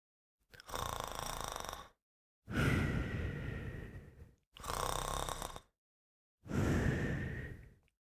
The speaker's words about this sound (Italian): Poi esce dalla casa e si sdraia sotto un grande pino. Dopo pochi minuti si addormenta e inizia a russare forte.